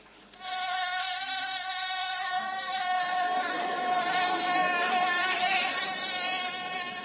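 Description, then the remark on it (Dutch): A biting mosquito's high, thin whine drones steadily for several seconds, wavering slightly in pitch, with no voices around it. “Het is een vlieg. Ja, een mug. Zo'n steekmug.”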